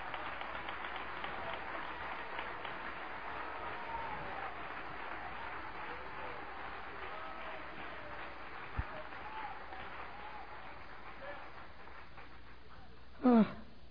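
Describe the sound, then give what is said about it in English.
A church audience applauds steadily, a dense wash of clapping that holds at an even level for several seconds, with a brief sharp burst of noise near the end. “Thank God for the church. Applause, applause, applause.”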